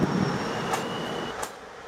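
Railway station ambience in Romania with the Interregio 1583 train, due to depart in five minutes for Constanța from track 13: a steady broad rumble and faint high-pitched whine, broken by two sharp metallic clanks about a second apart, with no talking.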